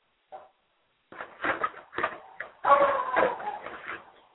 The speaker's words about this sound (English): Please disregard my dog. She will not stop barking to save her neck.